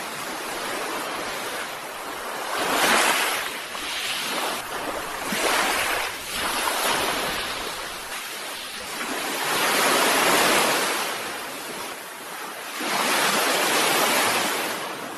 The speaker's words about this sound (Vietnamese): Tiếng sóng biển vỗ ầm ầm trong bầu không khí đầy hơi nước, khiến chúng tôi phấn tấn, tỉnh thức lên thêm.